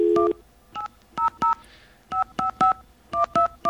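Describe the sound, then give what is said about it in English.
A touch-tone payphone being used to dial the toll-free directory assistance number: a quick run of short, clear two-pitch beeps, grouped in bursts with brief pauses between them, with no voices. “I must have called this number a million times in my life.”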